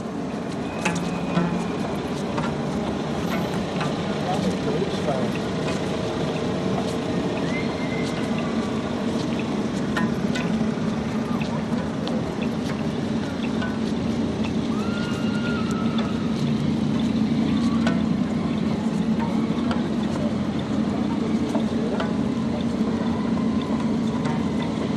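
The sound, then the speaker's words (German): Steady urban ambience at a street intersection, with a continuous low rumble of engines and vehicles passing, occasional clicks and faint voices mixed into the dense background. “Okay, dann ein kleines Konzert an der Kreuzung von einer Minute.”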